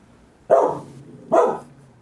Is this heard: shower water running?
no